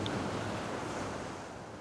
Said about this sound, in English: I'd like you to imagine that you're sitting atop some soft, warm sand. You can hear the ocean gently rumbling away.